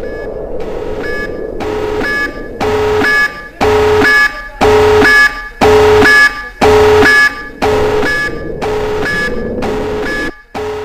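An alarm sounds in steady repeating pulses, loud, each burst a harsh tonal blare separated by brief gaps, continuing for about ten seconds with no one speaking.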